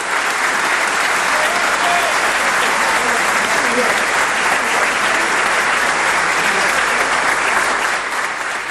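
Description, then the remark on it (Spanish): Sustained, dense applause from the Legislative Assembly of Santa Fe province at the end of Governor Maximiliano Pullaro's speech opening the 143rd ordinary session period, a steady loud wash of clapping with no pauses or rhythm, with faint crowd murmur mixed underneath. “Los aplausos para el final del discurso del gobernador de la provincia, Maximiliano Puyaro, a la Asamblea Legislativa, dejando inaugurado este nuevo periodo de sesiones ordinarias, ¿no?”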